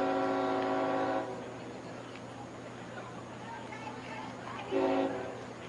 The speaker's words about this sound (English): And there goes another one of those trains.